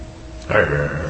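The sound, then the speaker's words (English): A person imitates a dog's bark with a single loud 'woof', a short voiced burst after a brief quiet moment. “Here's a dog. Woof, woof, woof.”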